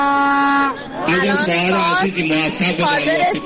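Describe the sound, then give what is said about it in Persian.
A loud crowd inside Azadi Stadium chants and cheers in a dense wash of voices as women enter the stadium for a match, opening with a steady, sustained horn-like tone before the many voices take over. “یک سری صداهایی هم داریم از داخل استادیوم و از وقتی که خانوم ها دارن وارد استادیوم میشن، بشنویم این صداها رو.”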